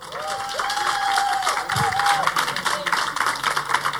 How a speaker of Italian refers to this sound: Uno sciame di pubblico. Allora io farei questa cosa consunta, e cioè di chiedere alle persone qua presenti di fare un bel applauso!